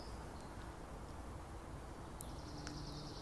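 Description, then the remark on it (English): Faint birds singing: a few thin, high chirps and a sustained whistle-like note near the end, set against a steady background hiss with no talking. “Birds singing, people laughing, people listening.”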